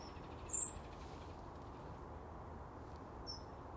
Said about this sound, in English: Oh, these wee birdies.